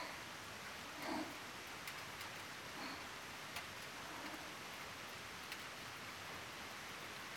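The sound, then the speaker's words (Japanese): A heavy downpour hisses steadily throughout, a dense unbroken wash of rain with occasional sharper drops and faint thuds standing out. No voices are heard. “そうよね、まだ土砂降りは続いているものね。”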